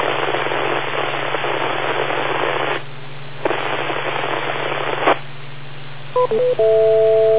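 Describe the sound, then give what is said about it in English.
Harsh radio repeater static hisses in long bursts over a low hum, broken by brief gaps, then a few short electronic repeater timeout beeps lead into a steady, sustained tone that runs to the end. “And so, repeater, timeout, repeater, timeout, cancel.”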